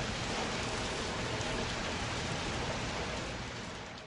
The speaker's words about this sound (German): Das Wetter ist schlecht. Er kann den Regen hören.